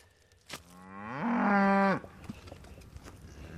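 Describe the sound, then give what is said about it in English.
A single cow on a family cattle ranch in a valley gives one long, loud moo lasting over a second, rising in pitch before it cuts off, with faint outdoor background noise around it. “Yeah, here's the cows that we worked yesterday.”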